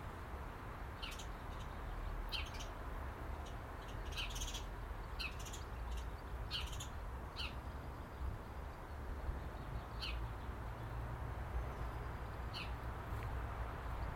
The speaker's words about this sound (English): And the wee spjugs, those house sparrows you hear in the laurel bush. Another Scots word for you, spjugs.